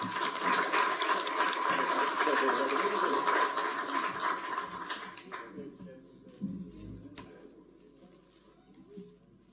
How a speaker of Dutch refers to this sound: En dank in ieder geval voor jouw bijdrage hier in Landert. Applaus.